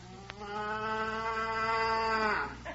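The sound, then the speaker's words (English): A single long, steady moo from a sleek, horned cow, low and droning, held for about two seconds before trailing off, loud with no talking over it. “She doesn't blow those horns. She was just mooing.”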